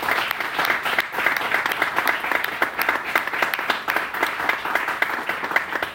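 An audience applauds steadily for several seconds, a dense wash of many hands clapping at an even, sustained level with no voices standing out.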